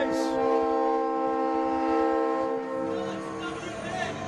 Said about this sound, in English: Why even compete with a train whistle? You really can't. I just shut my mouth and let it go.